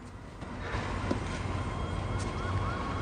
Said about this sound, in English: They both look towards the sound of the approaching sirens.